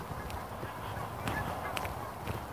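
A flock of about 30 to 40 geese flying overhead in a V formation, with more joining in, honking in repeated overlapping calls as they communicate, over a steady outdoor background, no talking.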